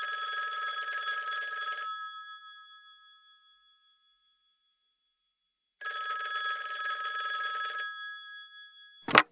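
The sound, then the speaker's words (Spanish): An old telephone bell rings in two loud, metallic bursts of about two seconds each, separated by a pause, followed by a brief clack at the end. “Hubiera sido precioso escuchar sonando ese teléfono.”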